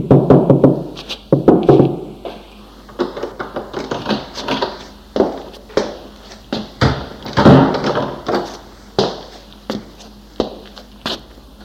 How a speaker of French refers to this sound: Enfin, il trouve une petite porte où est écrit dessus « Inscription ». Frappe et entre.